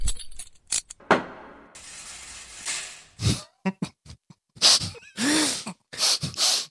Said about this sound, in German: Am Ende wollte ich diesen, you know, du weißt doch immer, wenn in Cartoons jemand verhaftet wird, dann sieht man immer Handschellen klicken, einmal kurz im Gerichtssaal, schuldig, und dann geht nur das Tor zu und du hörst diesen Sound.